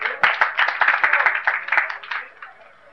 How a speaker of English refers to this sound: Let's have a loud applause here.